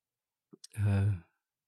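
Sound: yawn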